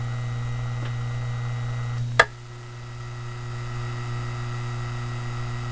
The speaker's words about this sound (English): Now listen to the same motor as we switch to a modified sine wave inverter.